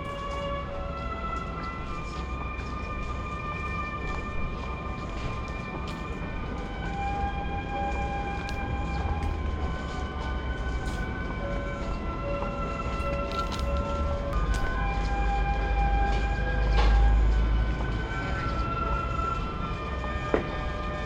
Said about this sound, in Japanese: 7番乗り場に名古屋行き急行が参ります。うちが終着駅名古屋まで止まりません。